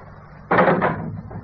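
A door is opened with a sudden loud clunk of the latch, a second knock-like rattle just after, then a quieter fading rumble as it swings. No one speaks.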